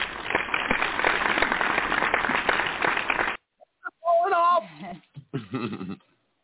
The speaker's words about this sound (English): Oh, shit, where's my applaud button? Am I missing that, too?